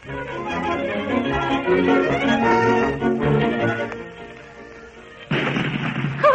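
Cannons boom repeatedly, fired at a young queen's command, beneath loud, sustained orchestral music, the heavy blasts rolling and overlapping, with a sharper burst of noise near the end.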